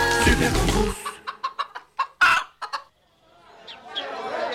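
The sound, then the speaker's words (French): Hens cluck in a quick string of short, sharp calls, following a loud, dense burst of sound and giving way to faint background murmuring. “Jeunes, poules, coqs, élus et autres riverains célèbrent avec joie ce beau projet de rassemblement.”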